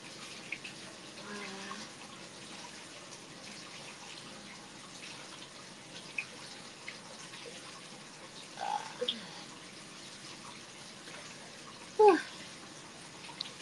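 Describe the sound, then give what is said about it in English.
Bath water runs in a steady, soft hiss throughout, broken by a few brief splashes and sloshes, one louder slosh near the end, all fairly quiet. “I can't believe I made the water cold. That was a fail. Should have kept the water warm.”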